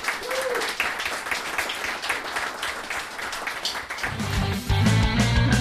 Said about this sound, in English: Give a round of applause for our panellists.